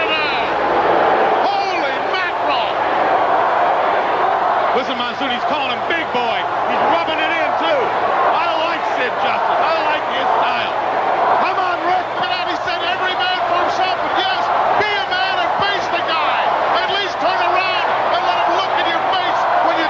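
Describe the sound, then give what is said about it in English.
A packed arena crowd roars and chants steadily for the whole stretch, a dense wall of many voices at constant loud volume, with thumps and scattered shouts rising out of the din. “They doctor the crowd and have them chanting for Hogan.”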